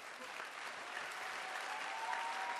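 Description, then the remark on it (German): A crowd claps steadily for the speaker's friend, who volunteers with him. The dense patter of many hands holds at an even level throughout, with a faint murmur of voices mixed in. “Gebt ihm einen gewaltigen Applaus.”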